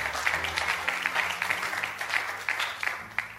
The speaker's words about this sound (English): Clap your hands and shout hallelujah, everybody.